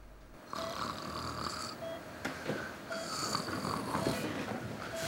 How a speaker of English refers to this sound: In ITU, …'s snoring away on her camp bed beside Christopher.